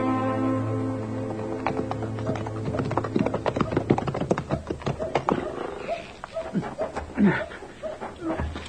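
Horse hooves clip-clop as a man is told to get on his horse, a quick, uneven run of sharp, loud knocks, then slowing to scattered steps with some shuffling and a low, steady hum early on.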